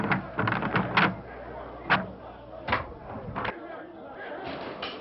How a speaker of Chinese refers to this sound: 你去开门，听听耶路撒冷城那种吵闹声。